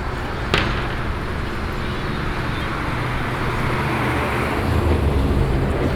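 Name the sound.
street traffic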